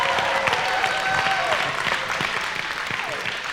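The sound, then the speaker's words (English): A crowd applauds steadily, a dense wash of clapping that holds at a fairly loud, even level throughout, with a few faint whistles or cheers rising above it. “a round of applause.”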